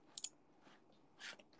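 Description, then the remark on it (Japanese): Quick computer keyboard typing, a few short bursts of crisp clicks separated by brief pauses, fairly quiet, with a voice just starting at the very end. “キーボード打つの早い。”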